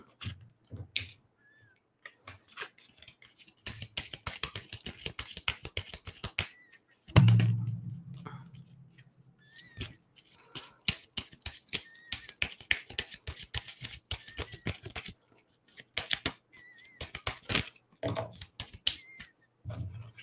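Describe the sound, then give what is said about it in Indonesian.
Crisp bursts of rapid papery flicking as a deck of cards is shuffled over and over to get a card to fall out, with brief pauses and a soft low thump partway through; no one speaks. “Aku kocok lagi biar dapat kartu.”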